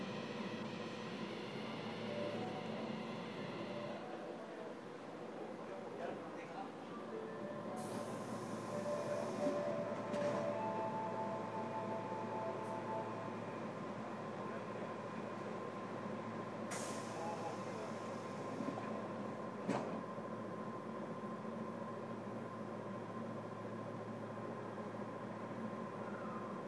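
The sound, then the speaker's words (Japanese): A subway train rumbles steadily along the track between stations, heading to Awaza Station (station number S13), a continuous loud roar with rattling, a few brief hissing bursts and faint tonal whines, with no talking. “The next station is 阿波座 Station number S13.”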